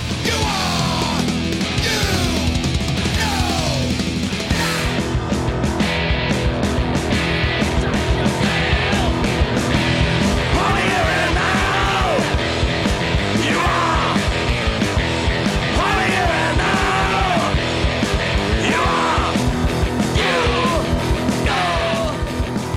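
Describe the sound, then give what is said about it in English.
Several voices scream and wail at full volume, a shrill, banshee-like howl that rises and falls over a dense, loud, churning wall of sound lasting the whole stretch. “that sounds like a group of people that are kind of covering their eyes and they're screaming at the top of their lungs, like a almost like a banshee kind of thing going on.”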